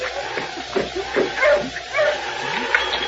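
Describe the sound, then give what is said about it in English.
Sergeant Preston's sled dog team barks, yips and whimpers in short, overlapping bursts as it stops in front of the trading post, over a steady hiss of background noise, excited, with about five yelps spread across the few seconds. “It was the first part of the following week when Sergeant Preston and King, coming down from Dawson, stopped with the dog team in front of the trading post.”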